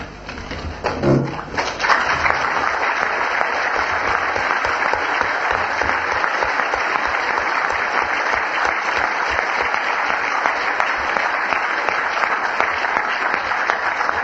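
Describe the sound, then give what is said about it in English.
An audience breaks into sustained applause after a brief low thump at the start, the dense clapping holding steady and loud for over twelve seconds without any voices. “Thank you, but please reserve your applause to the end.”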